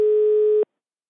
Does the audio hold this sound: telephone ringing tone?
yes